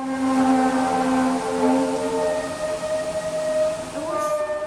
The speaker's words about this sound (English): And then this person links to a video of this. I think it's up in Canada. "Ultimately, the sound from this video was the noise of freight trains shunting, which is apparently slowing and changing direction."